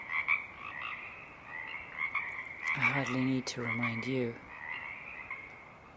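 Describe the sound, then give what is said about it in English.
A dense marsh frog chorus on Saturna Island, British Columbia, at 4:30 a.m. shortly before dawn, winding down as a song sparrow begins to be heard. It keeps up a steady, overlapping croaking trill throughout, with a man's voice briefly speaking over it partway through. “The frog chorus is winding down, and the waking song sparrow begins to be heard.”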